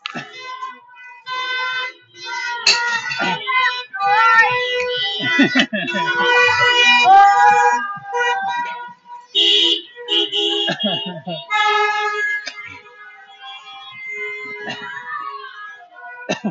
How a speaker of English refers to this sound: Wedding? You're gonna hear car honking.